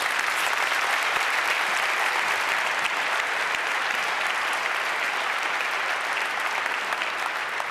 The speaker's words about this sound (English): Okay, so thank you. Please give a bit of applause.